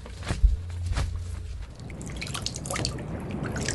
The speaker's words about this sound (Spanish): A veces salta el agua, como ahorita, ¿sabe usted? Y le pringa uno la cara y uno no sabe si está llorando porque la mar y las lágrimas son aguas saladas.